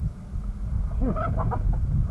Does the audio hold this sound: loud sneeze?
no